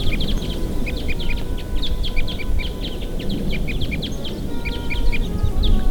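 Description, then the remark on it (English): A flock of about 15 crossbills flying in overhead gives repeated sharp, chippy calls in a steady scatter across several seconds, over a constant low rumble of wind. “Here go the crossbills.”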